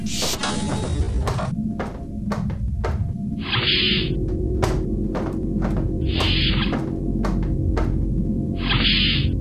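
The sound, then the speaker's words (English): A door aboard the ship NSS-421 opening with a mechanical hissing whoosh that repeats three times at steady intervals over a constant low hum, with sharp ticking clicks scattered throughout. “Open door. Door opening.”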